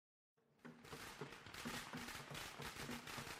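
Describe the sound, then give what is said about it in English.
After a brief silence, a dense, loud barrage of firecrackers for the Lunar New Year erupts, with rapid overlapping pops and crackles that keep going without a break. “The Lunar New Year comes around in an explosion of reds and golds, showers of drums and cymbals, and recordings of the sound of firecrackers.”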